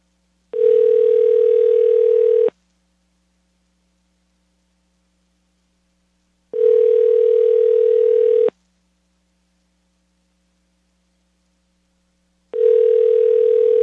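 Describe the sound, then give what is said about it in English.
A telephone ringback tone on a call to a Japanese phone number: three steady two-second buzzy tones, each followed by about four seconds of silence, fairly loud and slightly hissy, with no voices. “And rings in Japan always sound like they're underwater for some reason.”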